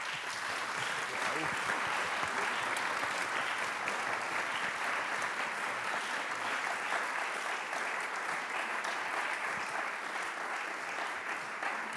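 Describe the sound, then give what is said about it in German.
Sustained audience applause for the people who came onto the podium to speak, a dense, steady wash of many hands clapping at an even loudness for the whole stretch, with no talking over it. “Und ich finde, ihr habt einen Applaus verdient.”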